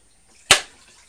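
A small jewellery ring box snaps shut with one sharp, crisp clack that fades almost instantly, standing alone against near silence.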